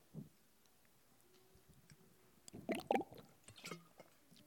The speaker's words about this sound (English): So that was a nice gurgle, sorry. I should have brought a smaller water bottle.